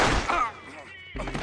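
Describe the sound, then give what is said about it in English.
Sharp gunshot blasts ring out as a man is shot at a front door, a loud report at the start followed by another burst near the end, with a lingering rumble and echo between them. “He fell down, he shot him again in the head.”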